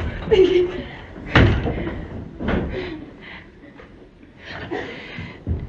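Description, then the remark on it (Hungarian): A door is opened and shut, giving two sharp knocks of wood about a second apart, with low voices and other sounds around them. “Nóra igyekszik rendbe hozni magát, és kinyitja az ajtót.”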